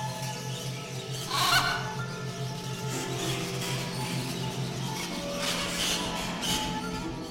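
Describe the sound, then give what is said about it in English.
A bird recording: harsh, honking squawks and calls burst out repeatedly over a steady low drone and dense background chatter, with no one speaking. “So a lot of birds make a lot of bird recordings from all over the world.”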